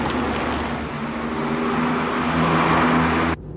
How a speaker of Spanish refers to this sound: Un coche pasa rápido por la solitaria calle.